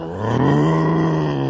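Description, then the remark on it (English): A person's voice imitates a tiger's roar, a single sustained, loud, low growling roar lasting over a second, with no speech alongside it. “I'm a roaring tiger.”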